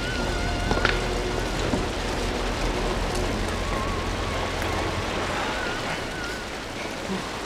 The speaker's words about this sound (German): Hier ist der Wasserfall. Juhu!